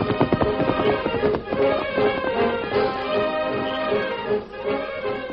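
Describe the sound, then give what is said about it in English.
Horse hooves gallop away in a quick, steady rhythm over a full, ringing tonal backdrop, the pounding staying fairly loud throughout with no voices. “Me go get him. You stay here, Dan. Get him up, scout.”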